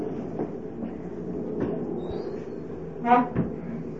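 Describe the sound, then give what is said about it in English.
A door swings shut with a short creak and a solid thud, followed by a faint second knock, set against a steady low rumble. “Would someone please close the door?”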